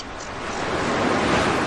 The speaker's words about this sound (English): It's just a gentle sort of background sound of the sea. And there's nothing else to remind you, really, of the 21st century, 20th century, whatever.